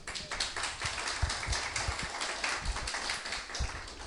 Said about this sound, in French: Voilà, nos musiciens, ils s'investissent et ils investissent dans ce qu'ils aiment. Amen. C'est bien, on peut les applaudir.